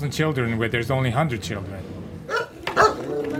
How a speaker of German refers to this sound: Vor der Jurte von Sol Jaral und ihren beiden Kindern kläfft weiter der Hund.